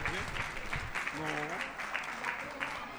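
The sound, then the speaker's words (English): A crowd claps steadily, a dense rattle of many hands that holds even throughout, while a voice speaks and cheers briefly rise over the applause. “Okay, round of applause.”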